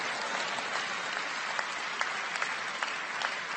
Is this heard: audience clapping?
yes